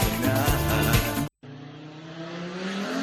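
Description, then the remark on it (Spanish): A race car roars past at O Páramo with a loud, harsh engine, cuts off for a split second, then another race car's engine howls on with a steady, rising whine. No one speaks. “O Páramo é o mellor sitio para que pasen os coches de carreiras e se xunten os aficionados.”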